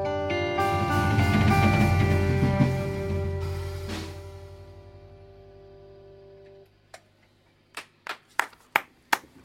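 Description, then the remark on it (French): A sustained musical chord rings out and slowly fades, then a handful of sharp hand claps from two people follow in an uneven rhythm in a large FIP radio studio, growing a little louder toward the end. “Il y a plein de monde qui applaudit derrière, mais vous n'entendez que mes mains”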